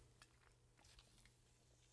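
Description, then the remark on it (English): Someone takes a quiet sip of a drink, with a few soft wet clicks and a swallow over a low steady hum, and no talking. “hold on, got to take a sip.”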